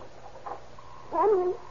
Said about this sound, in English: Your dog. It's howling about something.